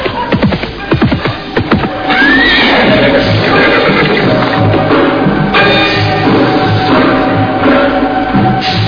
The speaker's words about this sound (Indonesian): Oh, hei Allah, kok sepertinya ada suara kuda menuju kemari. Oh, iya betul, ada suara kuda.